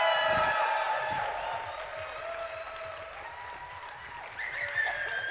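An audience breaks into sustained applause, dense overlapping clapping with a few whoops and cheers mixed in, staying fairly loud throughout with a brief swell near the end.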